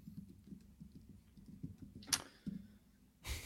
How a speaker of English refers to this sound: Who's typing?